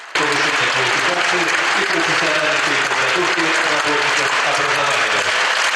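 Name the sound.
stormy applause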